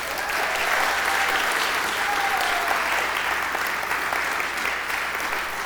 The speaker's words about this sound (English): I want you to just give a round of applause for Mukumbi coming back.